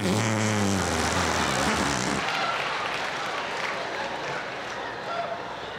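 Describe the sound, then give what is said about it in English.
A loud, low, raspy buzz of an arm fart made by pressing a hand into the crook of the elbow, lasting about two seconds, then trailing off into a steady hiss. “There are a lot of ways to make the fart sound when you're a kid.”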